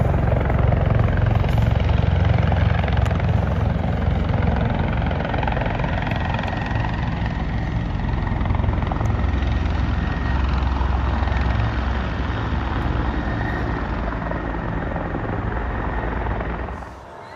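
Helicopters coming in to land at the White House, two on the House side and two on the Senate side, to evacuate people, their rotors a loud, steady low thumping with a turbine whine above it, holding strong throughout before easing off in the last second.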